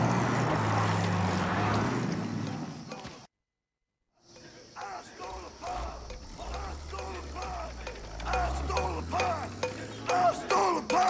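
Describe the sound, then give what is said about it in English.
A car engine rumbles loudly, cuts out for a moment, then is started again and revs up, its low drone climbing in pitch as it is shifted into gear. “He starts up the engine and shifts it into gear.”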